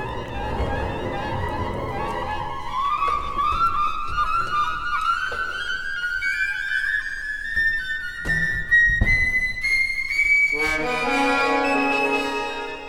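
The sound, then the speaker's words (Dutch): Flutes play a sustained, slowly rising line that fades away, over soft orchestral accompaniment, with a few sharp percussive accents and denser instrumental textures toward the end. Steady, moderately loud, no voices. “Maar laten we eerst naar de verdamping der fluiten luisteren.”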